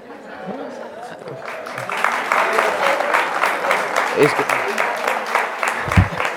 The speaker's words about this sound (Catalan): Com aplaudeix el senyor alcalde.